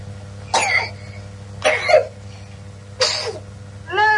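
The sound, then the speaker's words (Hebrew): Three sharp sneezes burst out, spaced about a second apart, each a brief explosive puff of breath over a steady low hum, with a fourth starting at the end. “לבריאות.”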